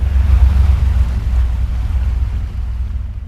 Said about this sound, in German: Die Schifffahrt hinaus beginnt früh morgens.